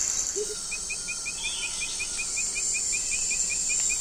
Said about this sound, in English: And those continuous sounds? Those are insects.